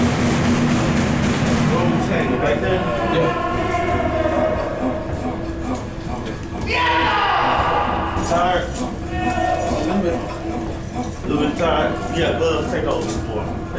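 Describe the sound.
Detainees bang repeatedly on metal cell doors, loud and irregular, yelling at correctional staff while an officer performs CPR, with overlapping shouting voices and a constant clattering din throughout.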